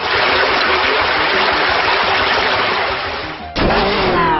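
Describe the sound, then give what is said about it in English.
A loud, continuous rushing water sound effect like a gushing torrent, from a water-type attack move called Drench in a video game battle, steady for several seconds, then an abrupt burst and shift into a brighter splashing tail with a rising tone. No voices. “Drench, water, select the target. Foe Grommel, Hydric use Drench.”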